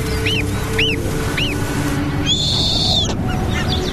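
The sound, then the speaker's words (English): A female snowy owl calls: three short, evenly spaced whistled notes, then a longer harsh screech, all over a steady low background rumble. “As these goslings prepare to take their first swim, the female snowy owl spots her chance.”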